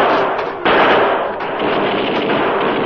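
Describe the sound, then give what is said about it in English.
Loud, sustained Tommy gun fire from police machine guns shooting in through a door rattles nonstop, a dense barrage of rapid shots with a sharp surge in intensity partway through and no voices. “The crook's gunfire was ineffectual against the rain of fire that poured from the police Tommy guns.”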